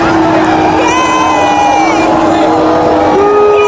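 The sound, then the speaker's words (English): A loud crowd of people sitting in the grass boos throughout, sustained low jeering voices blending into a continuous roar with a few voices rising above the rest. “Getting booed by people sitting in the fucking grass.”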